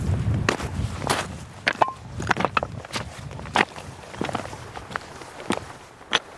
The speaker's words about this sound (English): I had the audio gear with me, and I was picking up all the sounds of our boots and the schist and granite and the skuas who were overhead.